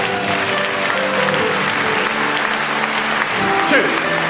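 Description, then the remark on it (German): Steady, dense applause from a group fills the whole stretch at an even, fairly loud level, with voices talking and calling out underneath the clapping. “Das habt ihr wunderbar gemacht. Super. Applaus!”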